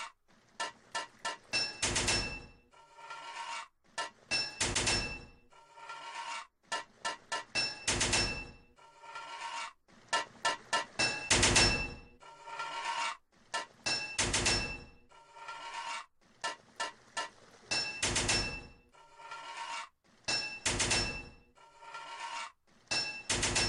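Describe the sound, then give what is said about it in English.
Metallic hammer strikes in a video game, three hits to fit each pipe, ring out in quick clusters of about three, repeating steadily with short pauses, bright clanking hits over a faint mechanical hum and no talking. “3 hits of a hammer to fit a pipe.”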